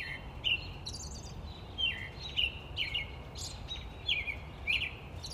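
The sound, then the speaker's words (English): Wetland birds at the Imaquan Nature Preserve, a restored 6,000-acre wetland in Fulton County, Illinois, calling in a series of about six short, high, bright chirps at irregular intervals, set over a steady low rumbling background noise, with no voices. “Cameron Cutinello visited the Imaquan Nature Preserve in Fulton County to learn more about wetland restoration and the birds, fish, and reptiles that call Imaquan home.”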